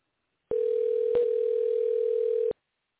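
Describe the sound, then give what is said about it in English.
A single steady telephone ringback tone on an outgoing call to a man, waiting to see if he picks up, holding one even pitch for about two seconds, with a faint click partway through and no voices. “We're getting a ringtone.”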